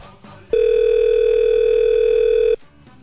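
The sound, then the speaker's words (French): A single steady telephone ringing tone sounds loud for about two seconds while calling someone back, a pure unbroken beep, with faint background noise before and after it. “Bon, alors attends, on va le rappeler.”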